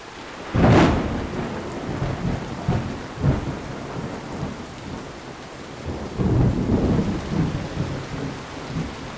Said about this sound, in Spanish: Y nos vamos despidiendo porque ya se dejó venir la lluvia y se ve que es de la que moja.